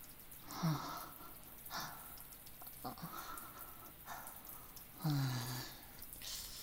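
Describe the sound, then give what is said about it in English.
Water splashes and trickles steadily over a person's chest, with a few louder pours and scattered drips; a soft breathy vocal sigh surfaces briefly a couple of times. “Oh, you like seeing my chest getting covered in all this water.”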